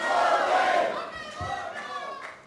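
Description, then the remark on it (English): A large audience at a live stage show shouts and cheers together in a loud, sustained roar of many voices, swelling at first and then easing slightly while staying energetic throughout. “All riled up now, the crowd gets behind Bodie's plea for one last ride before facing justice.”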